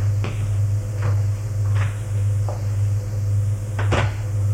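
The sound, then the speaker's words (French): Cupboard doors bang open and shut several times in quick, uneven succession as someone looks through the cupboards, each a sharp knock over a steady low hum. “Garde les placards.”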